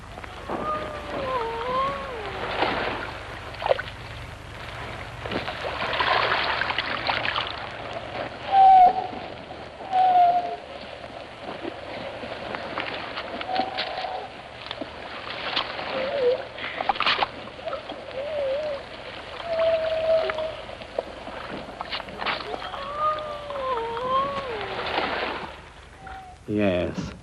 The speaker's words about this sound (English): A spectacular example of this was his recording of Atlantic grey seals on the island of Skoma, off the Pembrokeshire coast. And then, from a remote rock in the Atlantic Ocean, the wind brought a ghost-like voice to my microphone.